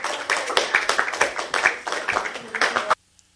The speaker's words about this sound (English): And I essentially was the last speaker, which actually got a smattering of applause.